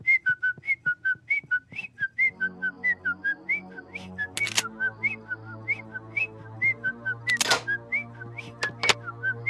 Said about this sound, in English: I'll just whistle a happy tune.